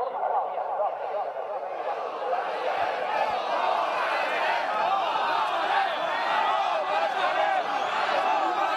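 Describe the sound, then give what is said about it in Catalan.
A large crowd of protesting farmers and livestock breeders shouts and chants continuously, many voices overlapping into a dense, steady roar with no pauses throughout. “Els crits que sentiu són de les últimes manifestacions que pagesos i ramaders han protagonitzat arreu del país per protestar contra el menysteniment que, segons denuncien, continua arrossegant el sector,”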